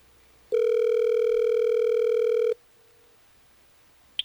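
A phone line rings once during an outgoing call placed by the radio station Hot 101.5: a steady, buzzy two-second ringback tone, fairly loud, followed by quiet hiss and a faint click near the end.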